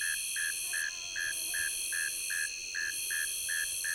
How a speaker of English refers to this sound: Tree crickets and ground crickets are dominant with their musical trilling, and then there's a Nebraska conehead sounding off loudly at the upper end. Its raspy buzzes, somewhat overwhelming if you can hear its high-pitched calls.